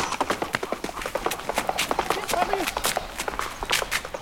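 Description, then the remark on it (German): A guide horse named Otis galloping on command in rural Schnelsen, its hooves striking in a quick, uneven rhythm of sharp thuds that carries on steadily for a few seconds, with a brief faint whistle-like tone partway through. “Geht das hier mit so einem Pferd auch? Das geht super.”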